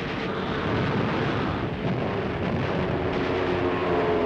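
A loud, unbroken roar of a Nazi air-raid bombardment on a supply convoy in an Algerian port, with heavy rumbling blasts blending into a dense wash of noise and droning aircraft. There is no talking.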